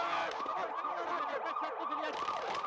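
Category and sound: vehicle, ambulance siren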